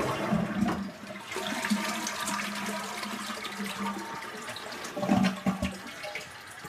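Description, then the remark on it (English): A toilet flushes, a steady rushing gush of water that swirls and gurgles for several seconds, with a louder surge near the end as the bowl drains and refills. “However, in our old age, we have come to the conclusion that an inside flush toilet might be quite nice.”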